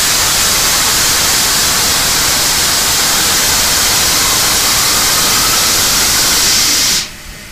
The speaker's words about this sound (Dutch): Om hier toch een beetje frisse lucht te krijgen, moet je een ventilator opzetten. Een kanaar, zoals ze hier zeggen. Als je wilt, laat ik hem eens even horen. Maakt heel veel lawaai natuurlijk.